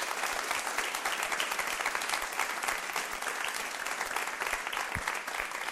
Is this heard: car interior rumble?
no